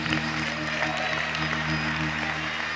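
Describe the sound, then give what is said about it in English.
An audience claps together in a steady, dense wash of applause that holds at an even loudness throughout, with a low musical hum sustained underneath. “Give him a hand clap.”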